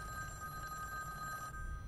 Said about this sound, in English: The phone.